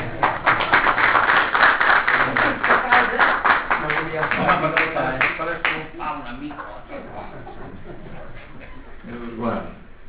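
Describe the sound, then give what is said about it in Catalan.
An audience applauds in a loud, dense burst of clapping for roughly six seconds, then the clapping thins out and fades while voices talk over the end. “Bueno, no hi ha un aplaudiment, no?”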